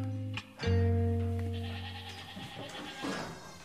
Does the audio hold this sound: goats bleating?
yes